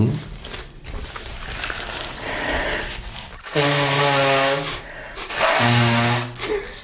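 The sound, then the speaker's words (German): Rustling gives way to two loud, honking nose blows, each a harsh, buzzy burst with a low tonal drone, the second shorter than the first. No one speaks. “Ich muss mich nochmal schnauben.”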